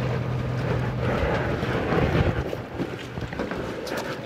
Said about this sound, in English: There are 10 of us on board a small ferry boat, 5 teenagers from different Boston public schools, and their educators from Zoo New England, Brandeis University, and the National Park Service.